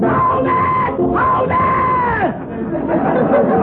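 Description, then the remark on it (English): A loud, dense crowd of overlapping voices at a noisy party in a house shouting and chattering at once, with a few higher yells rising above the steady din. “I'm not going to stand for noisy parties like this going on in my house.”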